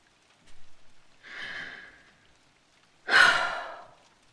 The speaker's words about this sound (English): Was that snore? It was a snore. You're snoring. You're snoring because you're fast asleep. You fell asleep on me.